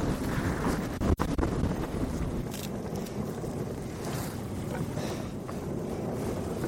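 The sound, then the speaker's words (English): Strong, steady wind roars and buffets at the top of Mount Keen, a Munro, a continuous low rumble with gusty fluttering and one brief thump, and no voices. “Is it always windy up here?”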